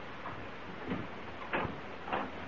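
A door is opened in a study with a few dull clunks and rattles, spaced unevenly over a couple of seconds against a steady low background rumble. No one speaks.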